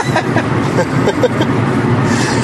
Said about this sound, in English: And we're driving from Minneapolis, Minnesota to Madison, Wisconsin.